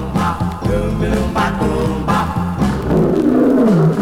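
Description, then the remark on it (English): A lion roars loudly, with deep rumbling growls that run continuously and sweep downward in pitch toward the end. “The lion ain't asleep, and it's me he wants to eat.”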